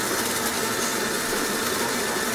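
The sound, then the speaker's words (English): A coffee grinder runs while coffee is being prepared, with a steady, loud, gritty whir, its harsh motor noise holding even and unbroken for the whole stretch with no voices. “it is time to get in the Grindr whilst I prepare us coffee.”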